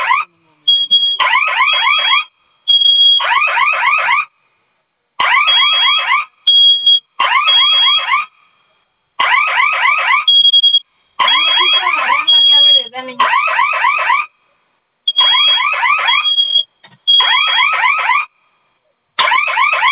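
A loud electronic fire alarm sounds in repeated bursts of rapid, warbling tones with short gaps between them, continuing throughout with no talking over it.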